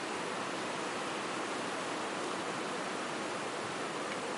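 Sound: rain falling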